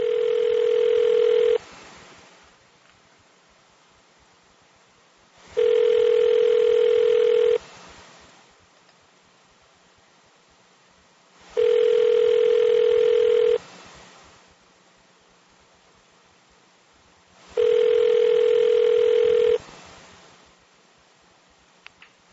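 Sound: telephone call ringing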